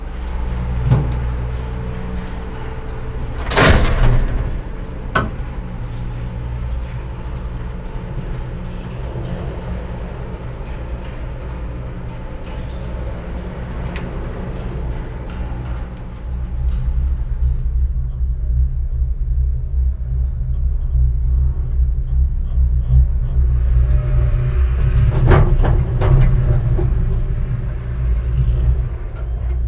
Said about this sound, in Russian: Треск, шум, вот этот перепад, когда вагончик проходит через вот эти катушки, да?